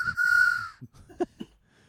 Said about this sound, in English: There's your train whistle noise. Or is it more of a ding?